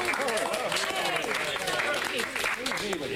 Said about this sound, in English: Round of applause there for …, four talented kids with a bright future ahead of them, I'm sure.